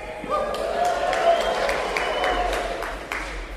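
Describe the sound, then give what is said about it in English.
An audience applauds steadily throughout, a dense wash of many hands clapping at once with a few sharper claps standing out, and faint crowd murmur mixed in. “I don't get that kind of applause out in California.”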